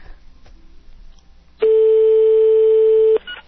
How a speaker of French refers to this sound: Ça sonne. Espérons-le. Et voilà, la petite sonnerie française.